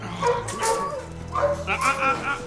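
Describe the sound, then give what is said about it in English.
Several dogs bark, yip and whine over one another in a steady, crowded chorus at an animal shelter, fairly loud, with high-pitched whimpers rising between the barks. “He shoves more dogs into cages.”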